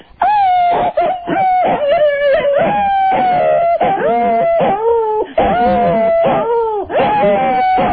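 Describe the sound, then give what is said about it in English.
A dog howls loudly and continuously, long wavering tones rising and falling, while a woman howls along in imitation, the two blending so they are hard to tell apart. “This is hard to figure out. What's the dog and what's the woman?”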